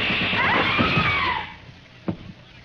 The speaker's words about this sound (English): And when you hear shots, scream. Scream? You heard me. But who's going to do the shooting?